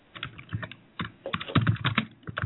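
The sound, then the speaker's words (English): Rapid, uneven clatter of typing on a computer keyboard while live tweeting Peter Fonda, a burst of sharp clicks with brief pauses, then a denser flurry of keystrokes, with no voices over it. “I'm live tweeting Peter Fonda right now.”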